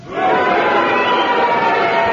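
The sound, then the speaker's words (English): A large studio audience cheers loudly and continuously, a dense wall of many voices shouting together for the full couple of seconds, voting that a contestant was hesitating. “They're cheering, so they thought you were hesitating.”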